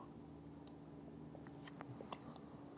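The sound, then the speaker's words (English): Someone takes a quiet sip of a Starbucks drink, with a few faint wet mouth clicks and a swallow over a low steady background hum. No one speaks. “Had to get a sip of that liquid gold from Starbucks.”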